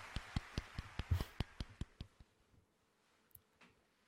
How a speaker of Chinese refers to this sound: 好了，下一个，还有脸鼓掌呢！